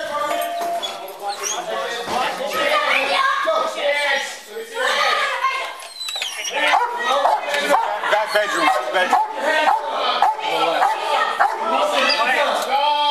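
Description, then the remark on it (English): A dog barks and yelps excitedly in loud bursts, mixed in with agitated human voices that keep up throughout the commotion. “Watch the dog.”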